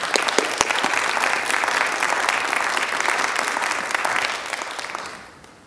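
A church audience applauds to welcome a guest from Jesus Loves Korean Church, a dense wash of many hands clapping at a fairly loud, even level before fading out over the last second. No voices stand out.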